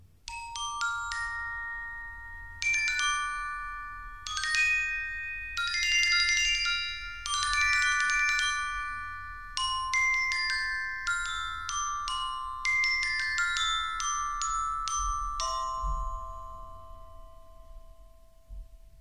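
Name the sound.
glockenspiel playing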